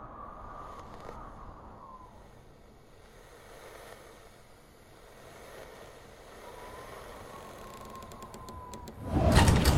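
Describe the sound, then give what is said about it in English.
A low, steady background hum with a faint whine runs for several seconds, then a door shuts with a single loud thud right at the end. “What have I told you about closing the door?”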